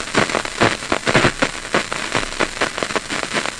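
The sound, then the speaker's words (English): Brain cells firing inside a resting rat's head, picked up by microphones on a cable coming out of its skull, as a steady stream of crackling snaps and pops, dense and irregular like static or light rain, fairly loud, with no voices. “You can hear this kind of snap, crackle, pop sound. These are individual cells that are firing.”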